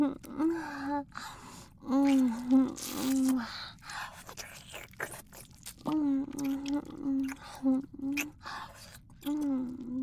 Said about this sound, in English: Wow, you're still panting. I think you enjoyed that, didn't you?